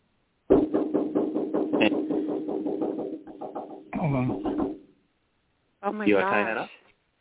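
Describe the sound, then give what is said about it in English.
Loud, rapid pounding on a door, a fast run of heavy blows lasting about three seconds, followed by two short bursts of voices. “That was some heavy duty beating on the door there.”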